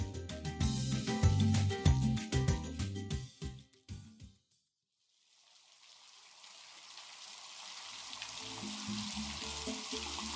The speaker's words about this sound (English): We're in Cali. There are two kids outside playing with the family dog, Simca. It's pouring rain, but they don't mind. The rain adds drama to the scene they're acting out.